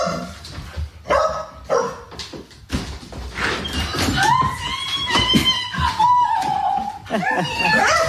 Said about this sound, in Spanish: Y este es otro perro, perra en este caso, recibiendo a su dueña.